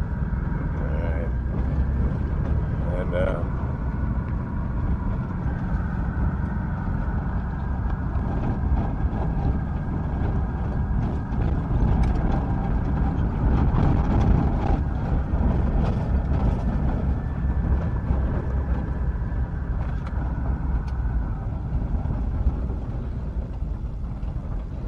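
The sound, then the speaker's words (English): A bus engine running after a roll start on a remote road above a wide valley: a heavy, steady low rumble with rattling road and body noise, loud throughout with no pauses. “There's a roll start here on the bus.”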